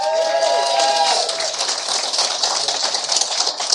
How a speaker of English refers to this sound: Let's have, ladies and gentlemen, a round of applause for our panellists.